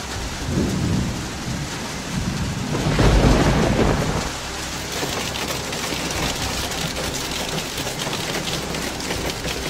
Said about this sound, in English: Bad weather, severe thunderstorms in Piedmont and Northeast, mega hail in Cuneo, landslides in the Dolomites.